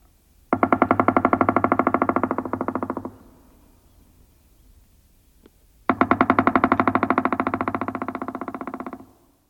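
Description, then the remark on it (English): A pileated woodpecker drums two loud, rapid rolls, each lasting a few seconds and fading slightly at the end, separated by a brief pause. No voices are heard. “It's the loud, drumming noise of the pileated woodpecker.”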